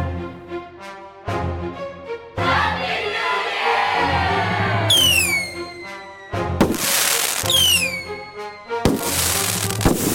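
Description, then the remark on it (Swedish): A short, loud New Year's review jingle with sustained tones, punctuated by sudden bangs, whooshing bursts and descending whistles like fireworks going off, lasting about ten seconds with no talking. “Mycket fin liten vignett.”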